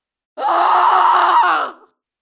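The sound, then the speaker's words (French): A woman lets out one loud, sustained scream lasting over a second, cutting off abruptly and followed by silence. “Crier encore.”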